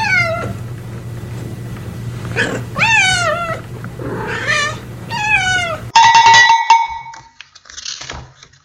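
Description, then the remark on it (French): A yellow cat meows in a long, drawn-out, melodic way, several wavering calls rising and falling like a song, fairly loud, ending with a brighter, sustained tonal phrase before fading. “Ils entendirent chat jaune. Mais comment fait-elle pour chanter aussi merveilleusement bien ?”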